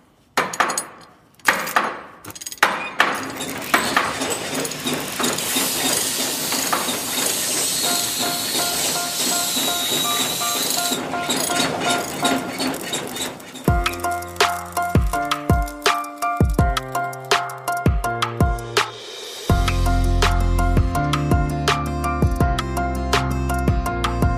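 An old weaving loom in Siebenbürgen (Transylvania), being tried out, clatters with a busy mechanical rattle and thin, high squeaks, then gives way to loud, sustained tonal chords punctuated by sharp knocks. No one speaks.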